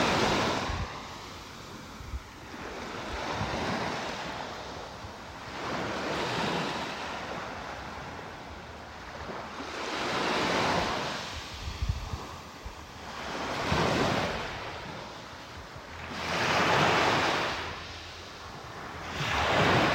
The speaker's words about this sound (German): So, und jetzt weiter Wellen lauschen.